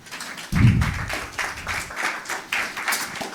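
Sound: round of applause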